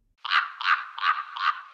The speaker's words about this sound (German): Na, ich denke, das war ziemlich eindeutig. Ein Rabe hört sich so an.